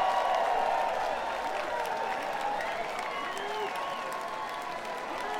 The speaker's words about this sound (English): big round of applause for the ladies over here for taking a chance on us.